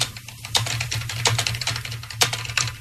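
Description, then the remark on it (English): Rapid typing on a computer keyboard, a steady patter of sharp clicking keystrokes, with a low electrical hum running underneath and no one speaking. “A lot of typing involved there.”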